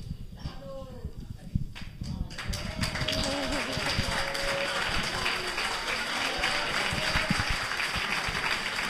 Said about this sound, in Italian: Beh, io sono commosso, ringrazio tutti per l'applauso.